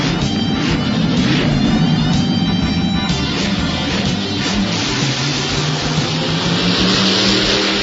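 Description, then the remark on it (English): A powerful muscle car engine roars and revs loudly and continuously, its deep rumble swelling into a rising, strained whine, with gritty mechanical noise filling the whole stretch and no voices. “The 60s also brought us the muscle car era.”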